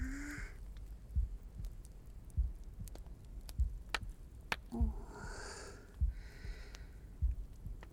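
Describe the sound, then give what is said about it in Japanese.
A slow, steady heartbeat heard during a hug thumps about once every second, each beat muffled, with soft breaths and faint rustling of fabric around it. “ほら、心臓の音聞こえるっしょ。”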